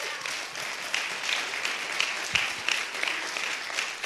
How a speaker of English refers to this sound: So I just want you guys to give them a round of applause.